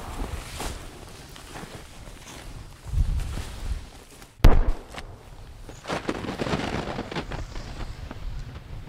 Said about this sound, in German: geht ein paar Schritte durch den tiefen Schnee in Richtung Hangkante.